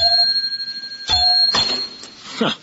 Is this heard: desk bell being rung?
yes